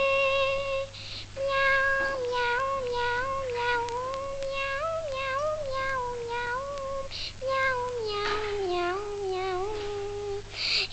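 A cat meows in long, drawn-out wavering cries, about three sustained yowls rising and falling in pitch, steady in loudness, with a faint low hum in the background.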